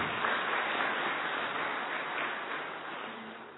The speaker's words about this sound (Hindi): खास उन्होंने कहा, बहुतों ने कहा हमारी याद प्यार सबको देना, तो आज याद प्यार दे रहे उनके लिए भी ताली बजाएं।